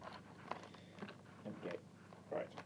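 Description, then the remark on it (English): A mixture of rock and sea salt being crunched up while cooking, a series of short, gritty grinding bursts at an uneven pace over a low, steady background hum. “A bit easier to crunch up, actually.”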